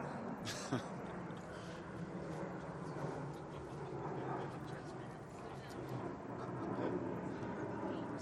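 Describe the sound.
A steady, broad roar of an airplane flying overhead fills the whole stretch, holding fairly loud and even throughout, with faint muffled voices underneath.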